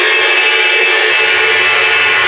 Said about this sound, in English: If I were to crash on the ride cymbal, which is a much bigger cymbal, the sustain is going to be a lot longer on it.